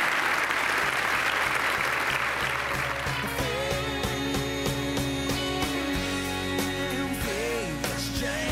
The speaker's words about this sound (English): Let's give Jane Mayer a round of applause for making it through that.